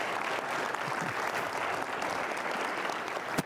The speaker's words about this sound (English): Would you just join in a round of applause for this occasion?